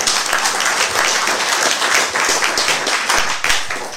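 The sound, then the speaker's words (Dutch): Sustained audience applause for a man's father during the man's installation ceremony in Oudewater, a dense, steady wash of many hands clapping at once, loud, lasting the full few seconds without any talking over it. “Nou, even een applaus voor zijn papa.”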